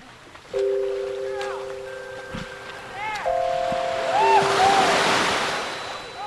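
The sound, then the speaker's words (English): Water laps and washes gently at the shore of the bay swimming area at San Francisco's Aquatic Park as the sun rises over the glassy water, the soft swell building and fading over a few seconds, with faint steady tones and brief chirps in the background. “The sun is just beginning to rise over the glassy water at San Francisco's aquatic park.”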